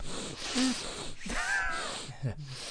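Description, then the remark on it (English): A person imitates loud, exaggerated sniffing into a microphone, several harsh breathy snorts and inhales in quick succession, mixed with a few squeaky voiced noises. “Because do you remember that one debate when he kept sniffing in a”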